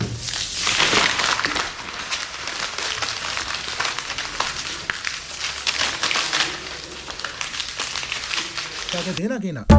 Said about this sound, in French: Une feuille froissée.